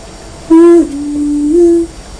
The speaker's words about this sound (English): I can hear another train.